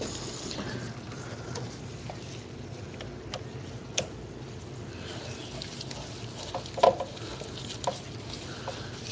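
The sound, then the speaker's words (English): A screwdriver tightens a hose clamp on the large hose over a car's throttle body: quiet, steady scraping and fiddling punctuated by a few sharp metallic clicks, with no one talking. “Gotta tighten the hose clamp down with the screwdriver.”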